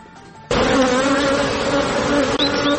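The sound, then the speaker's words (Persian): A loud, steady buzzing of many honeybees swarming around beehives kept by women beekeepers in Herat, Afghanistan, a dense continuous drone that starts abruptly after a quiet moment and keeps going without pause. “مطالب دیگری هم داریم و در گزارش از هرات میشنویم که کاروبار زنان زنبوردار رونق خاصی دارد.”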